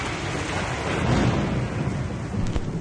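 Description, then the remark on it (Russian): A thunderstorm rumbles low and heavy over steady rain above a forest, the deep roll of thunder swelling midway with a brief sharper crack near the end, no voices present. “Но однажды гроза грянула над лесом.”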